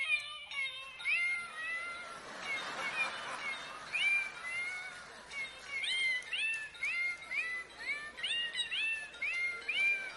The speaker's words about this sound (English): And it's, I don't know if you can see it, but it's a cat. But the fun part about it is I have to kind of put it up to where my mic is, but you pull the tab and it does this.